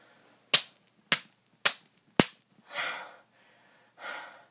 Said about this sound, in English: Start counting, but you've already been slapping me. Fuck, okay, fine. One. Two. Three. Four. Five. Six. Oh, it's getting so red, I'm sorry, you have to stop.